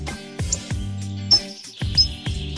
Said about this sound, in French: Ouais, un petit peu timide. Ouais, vous l'entendez, c'est pas... on se dit, c'est un petit oiseau. Eh bien non, il n'est pas petit, il est même magnifique. Le gros bec. Oui, c'est son nom. Gros bec, casse-noyau.